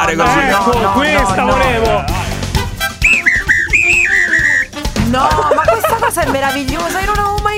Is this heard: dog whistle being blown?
yes